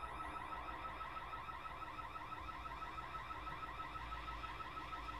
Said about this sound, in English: While the warning sound was still ringing out from my low battery, the bottom of a large private ship was projected on my monitor screen.